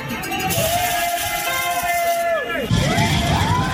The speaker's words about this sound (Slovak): Hovorím si, aplauz. Už len pri vynášaní smeti dostavila sa tá slávna chvíľa. No a potom som zistil, že sú to maturanti, ktorí chodia takto s tablom po meste, ale dobrí boli